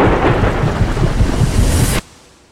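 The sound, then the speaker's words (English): Heavy rain pours down steadily with deep rumbling thunder underneath, a loud, dense storm roar that cuts off abruptly after about two seconds, leaving near silence. “When extreme weather threatens, you want your windshield wipers to handle whatever the elements bring your way.”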